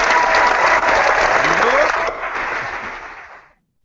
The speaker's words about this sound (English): Holy moly, that was an enthusiastic crowd. Yeah. Well, they're photoshopped. They photoshopped in the excitement.